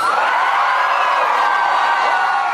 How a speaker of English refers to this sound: Addressing a rowdy and excited crowd, Anthony Albanese promised to unite the country.